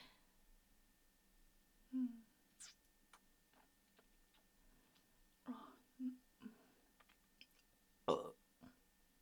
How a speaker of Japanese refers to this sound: 今のじゃ満足できないでしょ。もっと大きくて下品なゲップじゃないと君は満足できないもんね。